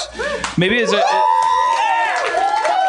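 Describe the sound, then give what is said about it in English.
A live show audience cheers and whoops loudly at a night-time recording, several overlapping voices rising into sustained high shouts after a brief murmur, continuing steadily for a few seconds. “It seems like a bigger crowd tonight.”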